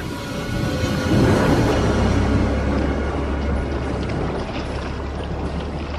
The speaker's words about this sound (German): machen Sie sofort ein Boot klar. Wir fahren rüber.